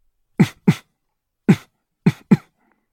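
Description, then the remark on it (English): During a breathing exercise, a person imitates a leopard's grunting while breathing out, with five short, rough, throaty bursts, loud and abrupt, falling in a pair, a single, then another pair, with silence between them. “To connect a little bit more viscerally with your little dancer, you can just make the leopard grunting.”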